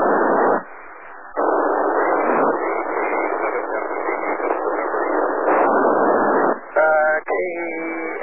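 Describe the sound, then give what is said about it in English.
A noisy, narrow-band radio transmission through a satellite hisses continuously with brief dropouts, a muffled voice buried in the static, and warbling tones breaking through near the end. “You're a little noisy into the bird there.”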